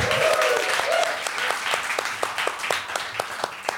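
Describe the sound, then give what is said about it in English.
Audience applause at the Lee Strasberg Institute Theater: dense, steady clapping that gradually thins out, leaving scattered individual claps toward the end, with a brief murmur of voices at the start. “Of applause, everybody.”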